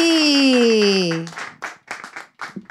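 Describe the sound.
A long shouted call with a voice sliding downward in pitch, then a few scattered bursts of audience clapping, uneven and brief rather than a sustained ovation.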